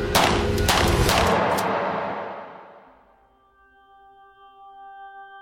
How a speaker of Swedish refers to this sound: Och sen går skotten av, rakt in i den oskyddade Mahatma Gandhis kropp.